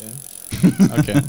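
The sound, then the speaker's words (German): A bicycle freewheel ticks in a quick, even run of rattling clicks, about five per second, starting after a brief quiet moment and staying fairly loud with no voices. “Klingel kann er auf jeden Fall, aber mach mal so ein Ritzel.”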